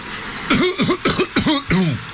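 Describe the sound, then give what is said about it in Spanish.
A quick run of five raspy coughs and throat-clearing grunts from a persistent hoarse throat, fairly loud, each burst short and strained, coming in a steady, insistent rhythm with no talking. “Esta carraspera no se me va a quitar nunca.”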